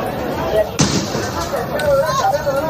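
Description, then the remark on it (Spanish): An armored police vehicle rams down the campus gate of the main university in Lima, Peru, during a police eviction of people camped there: a single sharp, heavy crash cuts through a steady rumble of engine noise and crowd hubbub, with scattered voices continuing afterward. “Es un vehículo blindado, lo que escuchas de la policía, derribando la puerta del campus donde cientos de personas llevaban acampadas desde el pasado miércoles.”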